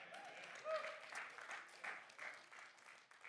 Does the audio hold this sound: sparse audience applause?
yes